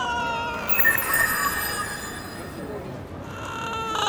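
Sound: cat meowing and purring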